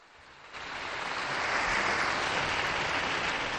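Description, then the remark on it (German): A crowd breaks into applause in honour of Blessed Don Pino Puglisi, starting softly and quickly swelling into a loud, steady roar of many hands clapping that continues without letup, with no voices heard. “Einen Applaus für Don Puglisi, bitte.”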